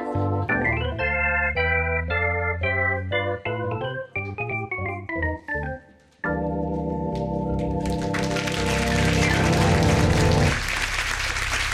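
A tonal musical passage with steady notes, then a loud burst of audience applause and clapping rises over the last chord and carries on to the end without talk.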